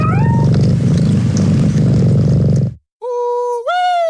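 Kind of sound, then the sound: animal, cat meowing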